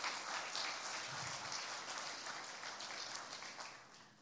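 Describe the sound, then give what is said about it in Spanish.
An audience applauds steadily in gratitude to the Lord, a dense wash of many hands clapping at once, sustained and fairly loud throughout before easing slightly at the end. “Dale otro aplauso de gratitud al Señor.”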